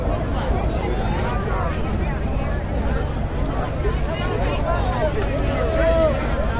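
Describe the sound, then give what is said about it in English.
A dense, steady babble of many overlapping voices from a crowd so packed that people touch as they push through it, loud and continuous, with scattered higher calls and exclamations rising out of the low rumble. “I don't think I've ever been in this kind of crowd.”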